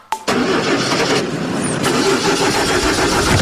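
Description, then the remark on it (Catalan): A car engine cranks and starts abruptly, then runs with a loud, rough, steady rumble, giving off an uneven, strained noise for several seconds with no one speaking. “Uf, el cotxe em fa un soroll estrany i l'aire condicionat no refreda gens.”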